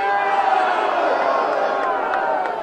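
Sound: protest crowd cheering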